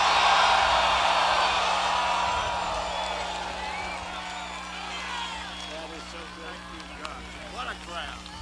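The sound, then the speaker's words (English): A large rally crowd cheering and applauding as Senator Jeff Sessions is introduced, a dense roar that starts loud and gradually fades, with scattered shouts and whoops still rising over it toward the end. “Wow, what a crowd this is.”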